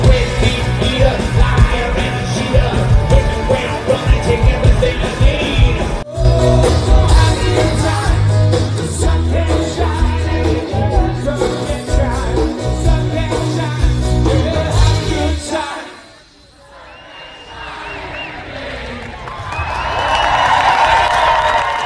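A large crowd at the Shake the Lake outdoor concert by Wascana Lake, near the Connexus Arts Center, cheers and yells over loud, thumping live music, dense and continuous; midway the music drops away briefly, leaving a roar of shouting voices that swells again toward the end.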